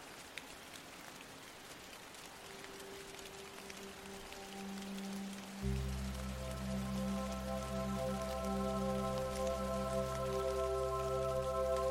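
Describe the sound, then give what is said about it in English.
Steady rain on a quiet, rainy day in Alaska patters on a surface throughout, a soft continuous hiss, while low sustained droning tones fade in and swell louder about halfway through. “There's nothing you need to do right now, so just follow the sound of my voice as we head far into the northern part of the world, Alaska to be exact, on a quiet, rainy day.”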